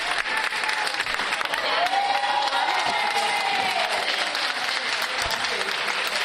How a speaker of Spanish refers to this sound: Para Óscar fue muy emocionante cuando abandonó IFEMA bajo el aplauso de los sanitarios que le habían estado cuidando.